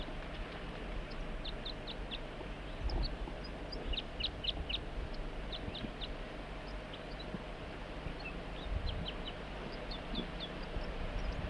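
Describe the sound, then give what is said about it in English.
A wild bird being recorded in the field calls in short, high-pitched chirps that come in quick clusters throughout, moderately loud over a steady low rumble of background noise. No one speaks. “Start recording the wild bird and 4-3.”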